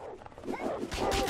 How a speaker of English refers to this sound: Good doggies.